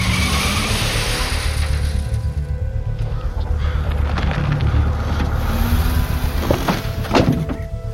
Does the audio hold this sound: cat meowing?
no